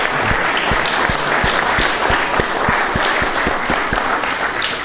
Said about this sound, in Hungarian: Tudom, hogy nem szokták tapsolni egy lelkész, vagy egy istentisztelet után, hogy köszönjük szépen a csodálatos prédikációt,